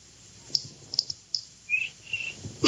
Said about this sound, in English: How do you like that? A cricket with rhythm. Oh, that was just a coincidence.